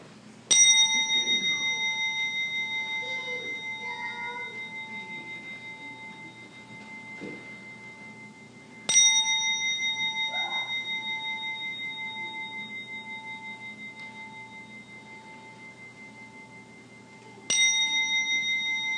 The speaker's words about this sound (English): So I invite you now to turn your hearts and minds to God as I ring this bell 3 times.